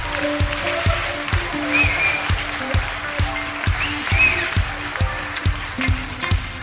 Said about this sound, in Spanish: Style Force, un fuerte aplauso, por favor.